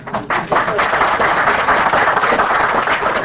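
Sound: audience clapping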